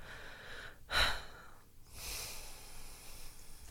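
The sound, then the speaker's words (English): Heavy breathing with no talking: a sharp, snort-like exhale followed by a longer, airy breath that hisses on for a couple of seconds. “You know, you're breathing really loudly.”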